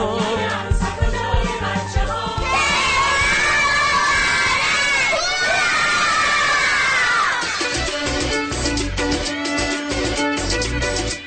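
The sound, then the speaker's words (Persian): A loud, sustained clamor of children shouting and cheering together on the grounds of the City Theater in Tehran during the 17th International Puppet Theater Festival, high-pitched voices overlapping in a continuous crowd roar, with music or rhythmic sounds beneath at the start and end. “سر و صدای بچه ها رو میشنوید؟”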